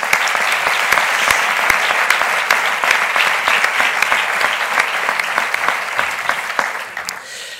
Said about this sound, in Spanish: Tenemos aquí a su hijo y yo pido un aplauso para ambos, para el padre y para el hijo.